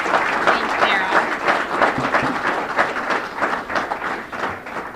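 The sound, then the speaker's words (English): A crowd applauds steadily for the full five seconds, a dense, sustained wash of clapping at fairly even loudness with no speech over it, welcoming Lieutenant Governor Tim Reynolds at a morning Republican Party event. “would you give a round of applause and a great welcome, Lieutenant Governor Tim Reynolds.”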